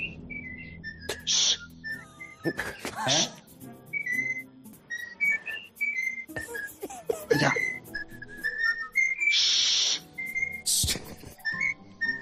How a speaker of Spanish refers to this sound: conectaron con el ex colegiado Pajares Paz, que estaba en su casa con el loro al lado. Esto es buenísimo. Y el loro empezó a canturrear algo.